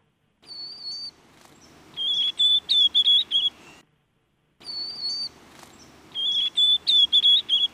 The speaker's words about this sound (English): And we have a really wonderful example, a young white-throated sparrow. Right, learning to sing.